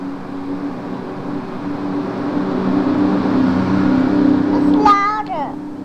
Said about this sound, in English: Bus? That was the bus. Matter. That was a number two bus going by. A number bus going by. That's a bus. It's a bus going by.